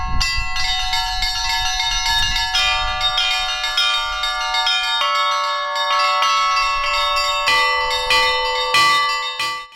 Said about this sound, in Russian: Звон колоколов – это внешний голос церкви. Он напоминает людям о том, что земным измерением жизнь не исчерпывается, и созывает всех на главное служение, которое только есть на земле – служение Богу.